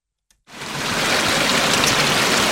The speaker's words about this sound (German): Wo mal der Wallgraben verlief, plätschert jetzt ein Bach durch den Kurpark entlang der Stadtmauer.